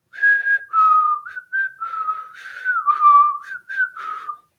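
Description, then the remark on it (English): A person whistles a melodic tune, the whistling theme of the character Georgie from a film, later borrowed by Tarantino for Kill Bill: a string of clear sustained notes rising and falling in a steady phrase, with no other sounds around it. “He borrowed the whistling tune from Georgie in this movie.”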